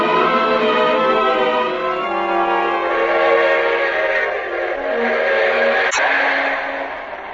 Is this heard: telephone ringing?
no